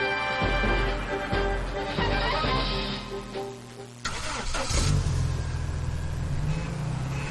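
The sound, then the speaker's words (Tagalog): A car engine cranks and starts, then revs up and down before settling into a steady idle, loud with no one speaking. “Tulad ng mga kotse na bumubo ng 30% ng aking mga alagad.”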